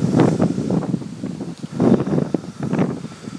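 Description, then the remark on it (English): Strong outdoor wind gusts buffet an iPhone microphone in uneven surges, a loud rumbling whoosh that swells and dips over a few seconds, with faint rustling underneath and no voices, while a light rain falls. “And yeah, it is quite windy, but the rain is not very intense at this minute.”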